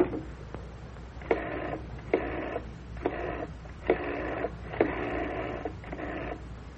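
telephone being dialed

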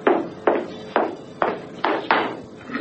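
approaching footsteps

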